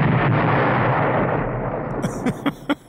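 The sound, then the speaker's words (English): A heavy explosive boom from a railway detonator, a small explosive used as a loud audible alert for trains, rolls out with a broad, rumbling roar that slowly fades, then several sharp, cracking bangs follow in quick succession, loud. “I mean, yeah, normally, but we're just talking about little explosions here, just powerful enough to make a sound.”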